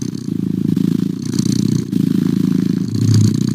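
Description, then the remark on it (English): A cat purrs steadily, a loud, low rumbling drone with a fast fluttering pulse that swells slightly in the breaths, continuing unbroken with no voices. “Here's a very standard purr you can listen to, and it says, do not listen to on your phone or your laptop.”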